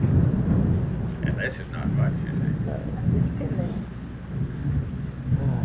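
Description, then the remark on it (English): Steady, hissing rain pours throughout a thunderstorm, with a deep low rumble underneath and faint muffled voices briefly showing through the downpour. “Now, this is the most rain we've had now in all this threatening weather.”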